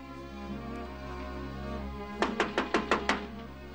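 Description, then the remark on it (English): Stapling labels onto barrels in a winery: six sharp, punchy stapler clacks fire off in a quick, even rhythm after a couple of seconds of steady low hum, which continues underneath. “Later in the winery, Mitchell staples labels on barrels.”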